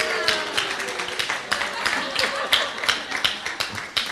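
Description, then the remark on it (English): An audience breaks into applause, a steady, crackling patter of many hands clapping for about four seconds, with faint murmuring voices underneath. “Yay, let's give him a round of applause.”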